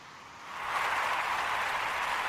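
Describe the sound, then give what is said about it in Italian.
Applause from a studio audience swells up within the first half second, then holds as a steady, dense wash of clapping without any voices. “Sì, il pubblico applaude, quindi possiamo andare oltre, cambiare argomento e passiamo agli spostamenti.”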